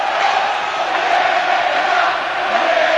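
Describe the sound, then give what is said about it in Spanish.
A huge stadium crowd at the Estadio Benito Villamarín shouts angrily in protest against the coach at the end of a Betis versus Espanyol football match, a loud, unbroken roar of many voices that holds steady for the whole few seconds without any clear pause or single voice standing out. “Más gritos contra el entrador, ¿eh?”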